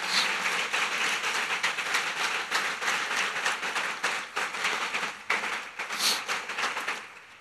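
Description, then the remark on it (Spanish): A church audience breaks into sustained applause for those who donated clothing, dense and steady hand-clapping filling the full seven seconds at an even level, with no voices standing out. “Te mereces un aplauso, te bendigo, te agradezco.”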